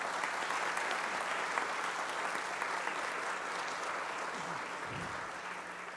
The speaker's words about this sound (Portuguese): O cerimonial pede uma salva de palmas para a Guarda Civil Municipal.